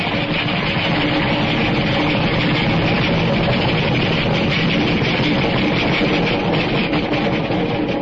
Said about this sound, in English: Wait till the train goes by and hang on to your teeth. It's an express.